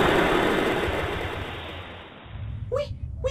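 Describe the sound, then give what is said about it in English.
A loud, broad roaring blast of rocket engines igniting, rumbling heavily and then fading over about two seconds, followed by a couple of short, high chirping sounds. “Ready for launch in 10, 9, 8, 7, 6, 5, 4, 3, 2, 1. Engage engines.”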